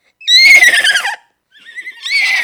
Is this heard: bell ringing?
no